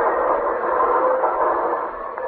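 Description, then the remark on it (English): A train with an express car carrying gold rolls into a station with a steady, loud mechanical roar and hiss that holds evenly throughout, with no voices and no clear horn or whistle blast. “You got to get into that express car where the gold is.”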